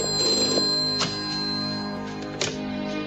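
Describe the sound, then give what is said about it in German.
A telephone rings steadily with a bright, metallic bell tone, sharp clicks near the start and middle marking repeated strikes, sustained with no voices. “Ich gehe schon ran”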